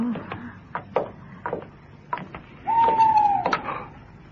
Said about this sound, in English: Owl.